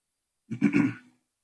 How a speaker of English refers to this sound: I had a sandwich for lunch today. I think some of those little particles are causing me to cough more than normal. Don't worry, I don't have COVID.